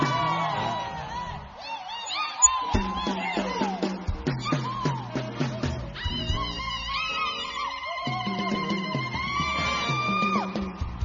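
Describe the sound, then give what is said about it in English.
An audience gives the Lord a clap and a shout, erupting in loud clapping and shouting, with whoops and yells rising over a steady rhythmic backing of music for about eleven seconds. “Will you give the Lord a clap? Will you give him a shout?”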